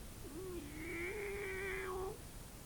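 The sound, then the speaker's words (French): A single long, drawn-out cat meow from behind an apartment door, the cat greeting a boy and his father returning home, rising and then holding steady for nearly two seconds, fairly quiet and heard alone with no talking. “Yvan et papa entendent un miaulement derrière la porte de l'appartement”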